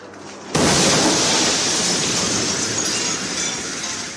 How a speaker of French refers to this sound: Une météorite vient de se désintégrer au-dessus de la ville. Une longue traînée blanche, puis une boule de feu et un éclair aveuglant. Presque irréel.